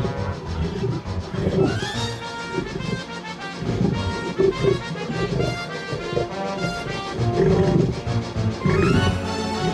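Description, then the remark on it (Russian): A tiger roars and snarls loudly as it rushes after a man through a forest after a thrown spear misses it, in a continuous run of rough, rumbling growls that rise and fall over about ten seconds, with no voices. “Один брат убежал, второй кинул копье в него, но промахнулся, и тигр бросился за ним.”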